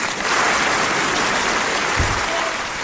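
A group claps together in a dense, steady round of applause that keeps an even loudness for about three seconds, with no voices standing out above the crackling patter.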